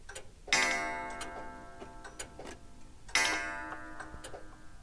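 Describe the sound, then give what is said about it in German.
Many clocks in Hans Jäger's collection, hanging and standing, tick at once in overlapping, uneven rhythms, while two loud, ringing metallic strikes, like clock chimes, sound a few seconds apart and slowly fade. No one speaks. “Und hier hängen und stehen sie, die Uhren, die Hans Jäger so sehr mag.”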